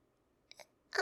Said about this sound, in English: The zipper's stuck. Can you come help me? Thanks. I can't get it by myself.